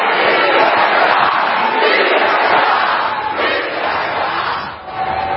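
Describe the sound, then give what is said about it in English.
A crowd of protesters at a town hall meeting shouting and yelling together in a loud, continuous roar of overlapping angry voices, with no single speaker standing out, holding steady throughout with a brief dip near the end. “Fierce debate and bitter protests breaking out at town halls all across the country.”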